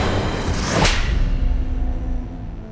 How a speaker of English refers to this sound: Rufus slapped John's face, and the prophet tumbled to the ground, confused.